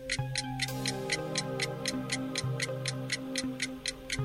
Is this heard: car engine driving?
no